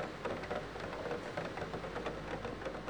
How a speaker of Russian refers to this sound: За окном темнело, и по-прежнему лил дождь, крупный, тяжелый, неторопливый. Дождь, которого было очень много и который явно никуда не торопился.